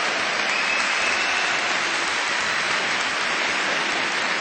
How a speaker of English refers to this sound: Yeah, go ahead. Applaud yourself.